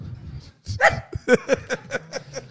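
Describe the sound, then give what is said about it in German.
A small dog gives a quick run of high, sharp yips mixed with whiny whimpers, fairly loud, roughly six or seven short cries in a row. “Ist da ein kleiner Hund drin?”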